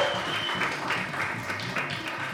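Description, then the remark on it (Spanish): An audience applauds steadily for a young woman on the show La Paja Nocturna, a dense wash of many hands clapping at an even level for a couple of seconds, with a faint murmur of voices underneath. “Un aplauso para la muchacha.”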